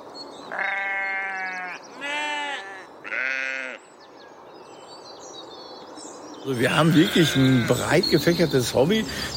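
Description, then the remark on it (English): Sheep bleat in a meadow by a forest, across from the entrance area of the Gelsenkirchen Carrier Pigeon Center, on Sunday, May 30th, 2021, at 9:15 a.m.: three separate wavering bleats in quick succession, a short lull with soft background hum, then a louder burst of overlapping bleating from several animals. “Across from us are sheep in a meadow with a perch, forest.”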